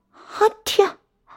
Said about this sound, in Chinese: 啊天，冻得我直打喷嚏。